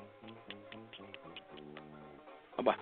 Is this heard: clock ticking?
yes